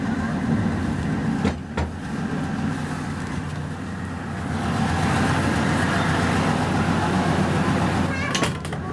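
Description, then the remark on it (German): A heavy diesel engine of a train departing Kupferkammerhütte station for Bendorf rumbles steadily, a deep low drone with a few brief clanks and hisses on top, continuing throughout. “Das Dieselbrummen hört sich nicht ganz so nostalgisch an wie bei der Dampflok.”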